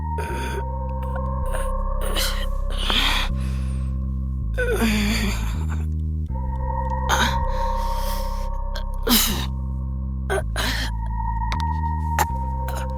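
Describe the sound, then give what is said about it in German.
A woman's labored, gasping breaths repeat unevenly, each a rough, strained inhale or exhale, set against a steady low droning tone that persists throughout. “Das Atmen fiel ihr schwerer, immer schwerer.”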